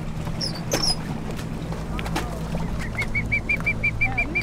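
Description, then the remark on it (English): A rescued bird squawks in a quick, regular series of sharp calls as it is scooped up in a net from a boat, over the steady low drone of the boat's engine, with a few scattered higher cries earlier. “Cameron leans out of the boat to scoop the bird up.”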